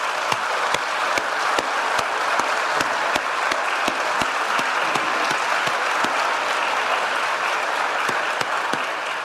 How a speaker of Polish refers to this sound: I myślę, proszę państwa, że w tym dniu zasłużyli na bardzo duże brawa od nas wszystkich. Brawa!